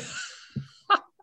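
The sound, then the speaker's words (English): A breathy sneeze bursts out and fades, followed by a short sharp exhale or sniff a moment later; no one speaks. “Bless you. Bless you.”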